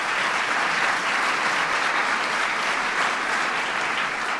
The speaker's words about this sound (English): We can thank them for the internet and all kinds of other stuff, so please give Regina a big round of applause.